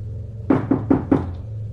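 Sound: knocking on a door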